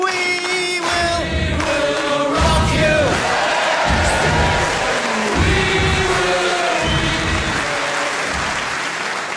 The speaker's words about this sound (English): and to those of you who clapped along, perhaps I didn't explain the game properly.